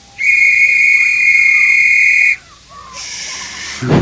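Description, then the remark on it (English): A train driver and two children blow their whistles: a long, loud, steady whistle blast holds a single shrill pitch for about two seconds, followed by a softer, breathier, higher whistle. No one speaks. “The train driver, Robin and Daisy, blow their whistles.”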